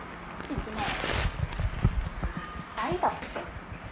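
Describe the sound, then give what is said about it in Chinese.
Hollow plastic pieces of a toy bowling set clatter and knock inside its box as it is shaken, an irregular rattling with a few sharper thumps. A voice speaks briefly over the noise near the end. “保龄球啊，知唔知啊？”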